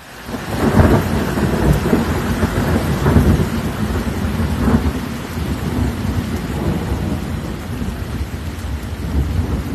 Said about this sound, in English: Yeah, the sound of yesterday's rain just outside my back door.